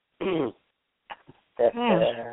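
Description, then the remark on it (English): A loud, honking nose blow: a tonal burst, a pause with a couple of faint snorts, then a longer wavering, moan-like honk that trails off. “I'm blowing my nose.”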